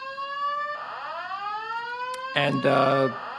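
A building fire alarm sounds loudly and continuously, a steady electronic tone with a rising, whooping sweep, then a harsher buzzing blast near the end.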